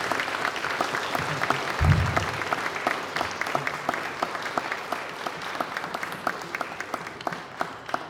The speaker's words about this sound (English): So can we give them all a round of applause, please?